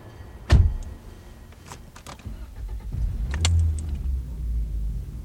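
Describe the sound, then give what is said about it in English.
The 1 o'clock Metroliner to New York pulls out from Track 20 of Union Station: a sharp thump and scattered mechanical clicks, then a deep, steady rumble that swells and carries on to the end, with no voices. “Over at Track 20, the 1 o'clock Metroliner to New York is pulling out of Union Station, and so will we.”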